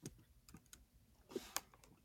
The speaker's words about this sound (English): it's almost like we can hear him typing. I was trying to do it real quiet and it didn't work out. I'm so sorry.